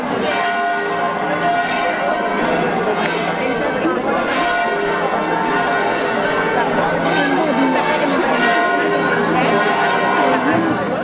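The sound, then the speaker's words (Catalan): Church bells in Pego peal continuously and loudly for the patron saint's festival, as the saint's image is moved from the Church of the Assumption to its chapel; overlapping tones ring out in a dense, jangling wash, with a faint murmur of a crowd underneath. “per a traslladar la imatge des de l'església de l'Assumpció a la seva capella, on descansarà i vetlarà pel poble el que resta d'any, i ho farà amb l'alegria amb què sonen les campanes quan tixen de la capella o inicia una processó com la de dimecres.”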